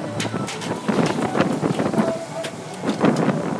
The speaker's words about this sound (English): Yeah, so if we go on the left first of all, you can hear the water coming off the thing here. So that's the water off the log flume, I think.